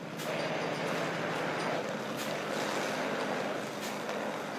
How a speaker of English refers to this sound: Well, we're filling the truck from the hydrant. We have a kind of a new system this year that we're experimenting with, and we have to make a few little changes in it probably to streamline it, I suppose.